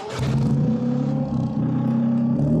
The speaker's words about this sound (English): But, so Toyota released a short video of the sounds that the hydrogen-powered Corolla race car made. And it sounds pretty good. Let's hear it.